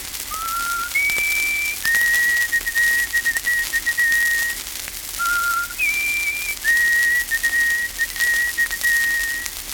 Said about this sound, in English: The Peabody bird, or white-throated sparrow, calls from out the deep woods in a clear whistle.